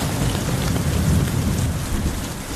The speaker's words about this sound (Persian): بارون گرفت. من فکر کنم یه چیکه افتاد تو دماغم اینجا. نه بارون جدی گرفت. جدی شده بودو.